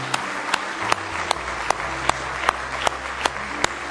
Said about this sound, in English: Somebody say praise the Lord. Let's give him another good hand clap of praise tonight.